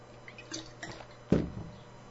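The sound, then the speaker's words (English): Water being poured and drunk by a person on a hot day: soft sloshing and dripping, then a sharp wet gulp or clunk near the middle. No talking, just a quiet hum underneath. “I don't know how much water I've drank today.”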